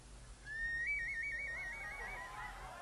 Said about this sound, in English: This necklace? This one? This is a potato whistle.